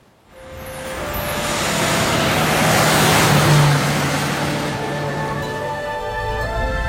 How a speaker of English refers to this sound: Something's happened to this car. It's quieter.